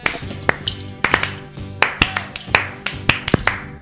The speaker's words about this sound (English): And the slow clap.